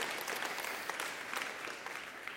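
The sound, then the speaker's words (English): A crowd applauds steadily, many hands clapping in a dense, continuous patter with a few sharper claps standing out, moderately loud, with no voices. “Now, it's fun to clap, but do you have it?”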